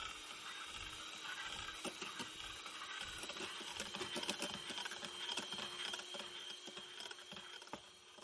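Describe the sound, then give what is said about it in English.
An electric mixer whips 350 ml of double cream in a bowl until soft, its motor giving a steady high whine over a constant rattling and clicking of beaters in the bowl, with no talking throughout. “We're going to get that in a nice bowl and get it all whipped up so it's nice and soft.”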